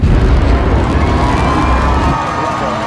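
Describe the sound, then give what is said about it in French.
The launch of SpaceX's first rocket, in 2006, roars with a deep, steady rumble beneath a cheering crowd; the low thunder drops away after about two seconds while the crowd's excited noise carries on. “Il fonde l'entreprise en 2002 avec 100 millions de dollars de sa fortune personnelle, et la première fusée décolle en 2006.”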